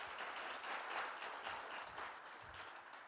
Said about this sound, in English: The gospel, yeah, you can clap for that.